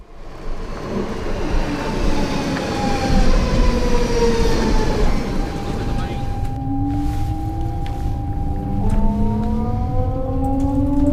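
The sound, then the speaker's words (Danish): A commuter S-train rumbles steadily along the rails, its low drone joined by rising and falling electric motor whines as it speeds up and slows, continuous throughout, on a seven-stop ride from Copenhagen Central Station toward Greve, Denmark. “Syv stop med S-toget og fem stop med buslinje 600S.”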